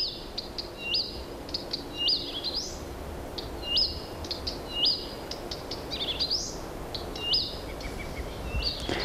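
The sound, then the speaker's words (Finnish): A songbird sings a string of varied high whistles and chirps in a grove in Karkkila, phrases repeating every second or so and seemingly borrowing other birds' calls, clear against a steady outdoor hiss. “lintujen laulu yltyy tässä lehdossa.”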